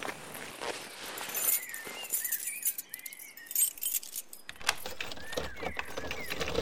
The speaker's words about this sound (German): öffne mit deinem Dietrich die Tür. Mach ich.